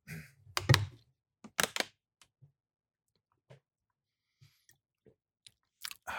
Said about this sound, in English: You're not drinking loud enough. I don't know how to drink loud. Okay, here we go. Wait, can I just try something real quick? Yeah. Oh, I gotta slurp it.